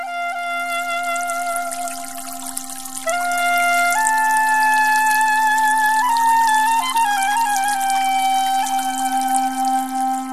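Water flowing and trickling steadily from a spring with no one speaking, carrying a bright, ringing tone that shifts upward in small steps as the flow continues, fairly loud throughout.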